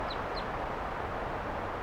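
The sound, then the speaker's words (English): Two quick, high chirps from wild birds perched next to a car sound in close succession at the start, fairly faint over a steady outdoor rumble, followed by only the background noise. “Now there are some wild ones right here,”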